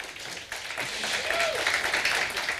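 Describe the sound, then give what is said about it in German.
An audience at the Plank Stage of the Three-Headed Monkey Village breaks into applause for a talk on 15 years of Netzpolitik.org, a dense wash of many hands clapping that swells within the first half second and holds steady, with a faint voice or cheer briefly rising through it. “Und ohne große Umschweife, einen großen Applaus bitte, und zwar jetzt.”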